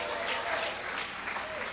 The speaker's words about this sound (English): Come on, give Jesus a big clap tonight.